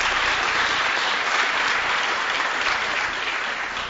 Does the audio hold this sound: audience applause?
yes